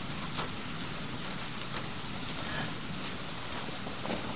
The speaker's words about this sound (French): La pluie.